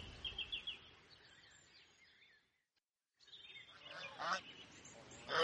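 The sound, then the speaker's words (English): A flock of geese, with goslings nearly as big as the adults, honks and calls repeatedly, loud, with harsh overlapping cries that pause briefly before starting up again even more noisily. “You didn't tell me there were sheep here, or geese.”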